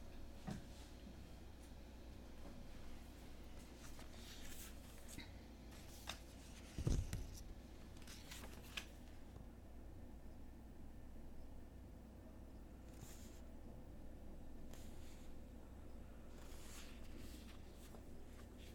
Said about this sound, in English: I'm grabbing another book.